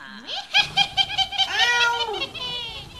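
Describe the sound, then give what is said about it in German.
A cat meows: a short rising meow, then a quick burst of chirpy, stuttering calls, and finally a longer drawn-out meow that bends downward. No one speaks. “Seht ihr die Katze da hinten? Die will uns was zeigen, glaube ich.”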